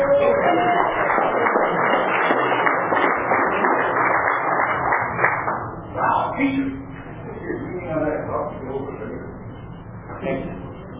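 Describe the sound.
An audience applauds a featured speaker from Fresno in a dense, steady wash of clapping for about six seconds, then it thins out and fades as a few scattered voices and cheers linger.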